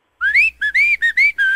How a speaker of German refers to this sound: Das fröhliche Pfeifen.